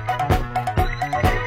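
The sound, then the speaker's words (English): A short musical loop made as music for horses, built from horse neighs: three whinnying bursts repeat in a steady rhythm over a sustained low tone, loud with no talking. “I don't mean music about horses, I mean music for horses.”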